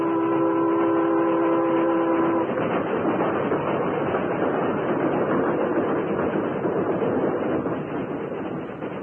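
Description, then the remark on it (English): A train roars past, its horn blaring steadily for a couple of seconds before giving way to a loud, continuous rumble of wheels that eases slightly at the end. No one speaks. “you saw the train pass as you wanted to, but you went through a lot before you did.”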